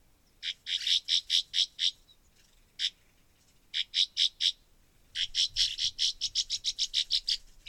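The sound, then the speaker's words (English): A pair of rough-winged swallows flying past in Wisconsin in late spring give harsh, buzzy calls in quick clustered series, a brief pause, then a longer rapid run. They sound clear, with no talking and only faint background noise. “This past late spring, I heard some bird sounds that I don't hear very often.”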